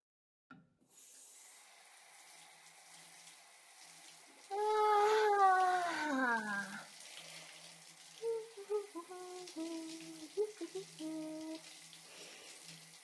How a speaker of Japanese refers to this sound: 夜のシャワーもいいけど、お昼のシャワーも気分が違って気持ちいいな。